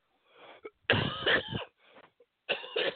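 human body sound, coughing

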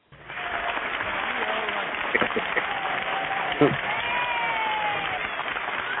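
crowd, studio audience applause

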